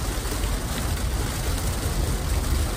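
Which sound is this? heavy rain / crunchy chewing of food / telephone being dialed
heavy rain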